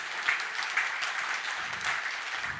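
An audience at a church service claps steadily for a woman who already speaks German very well, a dense wash of many hands with a few louder bursts standing out, with no voices over it.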